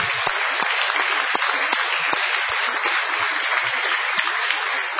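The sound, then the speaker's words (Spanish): Steady audience applause at Radio del Plata, extended to greet Patricio Barton, fills the whole five seconds, a dense crackle of many hands clapping at an even loudness with scattered sharper claps standing out, and no voices. “Vamos a extender el aplauso para saludar a Patricio Barton.”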